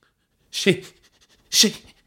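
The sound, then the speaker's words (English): Two short, pitiful dog whimpers, each a breathy whine sliding downward, about a second apart, with nothing else sounding between them. “Bish looked embarrassed as George spoke a pathetic whimper.”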